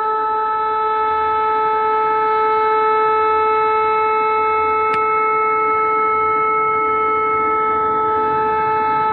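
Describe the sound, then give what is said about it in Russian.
A loud siren sounds at 9 pm on the 26th in the airmen's town of Engels, a kilometre from the military airfield. It holds a steady, unwavering tone for the entire stretch, rich and droning like a civil defense alarm, with a single brief click midway and no voices. “Сирена.”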